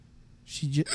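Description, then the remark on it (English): A single hiccup: a sharp breathy intake followed by a short voiced catch in the throat, then a quick burst of breath, loud with no talking. “Oh, man, I got the hiccups.”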